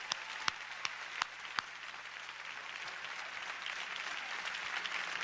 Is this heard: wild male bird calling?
no